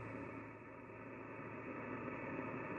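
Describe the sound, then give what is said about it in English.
A steady wash of static hisses at an even level throughout from a ham radio receiver with no station on air, early in the morning, with a faint underlying hum and no voices or music coming through. “Nothing but static.”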